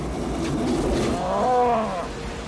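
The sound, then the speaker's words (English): A single drawn-out cow moo rises and falls over a loud, rushing roar of wind, fairly loud, with no talking. “Cow.”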